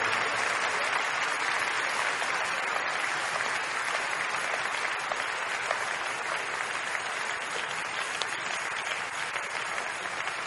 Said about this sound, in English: Let's do it. Let's do it with joy, brethren. Let's do it with excitement. Thank you, Father. Keep clapping, keep clapping, keep clapping.